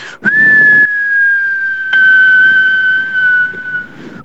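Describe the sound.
A voice imitates a whistling firework rocket with one long, steady high whistle that holds for about four seconds, slowly dipping slightly in pitch, with a low rumbling hiss beneath it.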